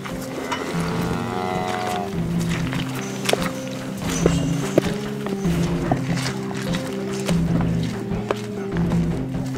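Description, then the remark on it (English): A herd of hundreds of cows, with several long, overlapping moos droning at different pitches, plus scattered clops and shuffling of hooves. “Product of the hundreds of cows to our right.”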